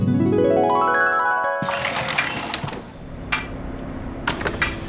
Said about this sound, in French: Monsieur Mortimer est venu ouvrir les portes et...